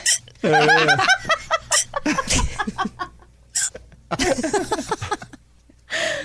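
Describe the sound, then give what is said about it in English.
Sharp, squeaky hiccups from a woman pop out, mixed in with bursts of laughter and snickering from several people, with brief chatter between them. “There's another one. It's just a hiccup. It's the isolated hiccup.”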